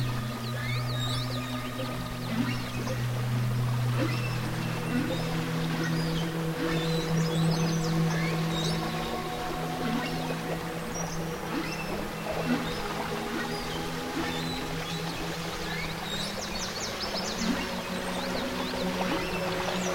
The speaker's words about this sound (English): And that is a whale in the distance.